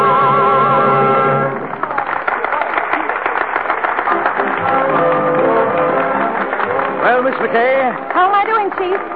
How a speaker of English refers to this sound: That noise is applause, isn't it?